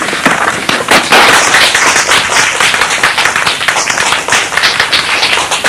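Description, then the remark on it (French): An audience applauds at the end of a talk, honoring Saint Teresa of Ávila, many hands clapping in a dense, crackling wash that holds at an even, loud level throughout without a break, and no voices come through. “Je vous remercie aussi d'applaudir Sainte Thérèse d'Avila.”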